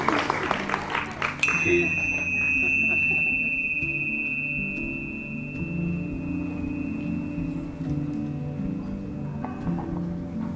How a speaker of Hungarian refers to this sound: Egy csengetyűzést nyomok a végére.